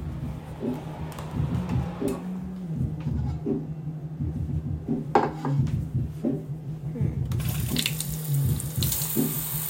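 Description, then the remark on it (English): Tap water runs steadily into a glass with a few light clinks and knocks along the way, and the rushing stream grows brighter and stronger near the end. “Okay, sure, yeah, I'll grab you some water.”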